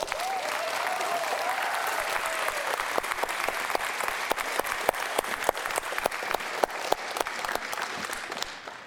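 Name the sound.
audience applauding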